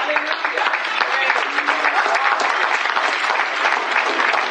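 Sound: audience clapping hands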